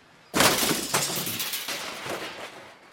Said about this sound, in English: One day, the boat crashed into a rock.